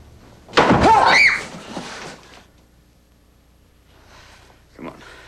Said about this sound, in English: Alan opens the door to the attic. Sarah and the kids follow him in. Peter shuts the door.